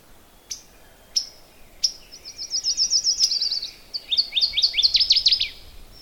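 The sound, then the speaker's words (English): A northern waterthrush sings in the woods, a loud, clear three-part song: a few separate sharp chips, then a rapid run of bright repeated notes, ending in a quicker, lower-pitched chattering flourish. “That, tweet, tweet, tweet, tweet, tweet, tweet, tweet, that was a northern water thrush. There he goes. It's a three-part song.”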